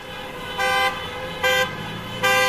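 Car horns honk in three loud, steady blasts over the constant rumble of street traffic, each toot lasting a fraction of a second with a bright, buzzy tone, as drivers in wintry central Kyiv, Ukraine, sound their horns in support of several hundred people gathered for a Christmas demonstration.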